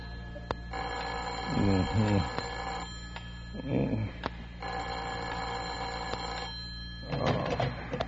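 An old-fashioned telephone bell rings in a warden's office, twice in long, steady bursts of about two seconds each, with brief muffled voices murmuring in the pauses and a third ring beginning at the end.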